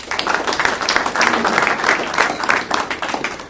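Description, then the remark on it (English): An audience gives a round of applause after Scouts lead the Pledge of Allegiance: many hands clapping in a dense, crackling wash that stays fairly loud and steady throughout, with no talking. “What a nice round of applause.”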